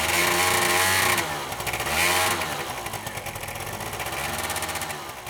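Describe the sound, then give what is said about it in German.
A small moped engine runs loudly for the whole stretch, its buzzing pitch rising and falling as it revs up and eases off, ridden by students during school moped licence driving practice. “Es macht Spaß und dass wir sehr oft hier fahren dürfen.”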